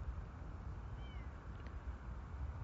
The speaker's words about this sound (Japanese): 猫ですか？猫こんな鳴きますっけ？こんな冬の時期に。帰りたい。何にせよもう帰りたくなりましたね、なんか。猫ですよね。